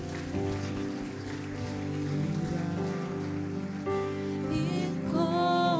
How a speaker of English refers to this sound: Can we worship Him? Can you praise Him? Can you just give Him a hand clap and praise Him today and say, "Thank you for your faithfulness."